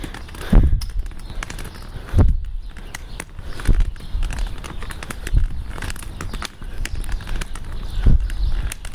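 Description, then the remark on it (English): Sparrows chirp busily in quick, overlapping bursts all through on a mild, almost-spring day, while heavy footsteps thud slowly and steadily along a path, with no one speaking. “My goodness, the birds are happy.”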